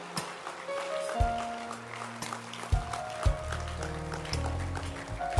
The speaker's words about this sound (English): Keep clapping. Don't stop clapping.